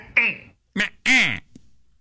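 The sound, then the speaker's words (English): Someone imitates a cat's meow to call a cat, with three nasal, mewing calls whose pitch rises and falls; the short middle one sits between two longer ones, with no other sounds around them. “So, yeah, you too can call your cat”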